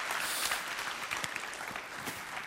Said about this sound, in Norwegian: Stor applaus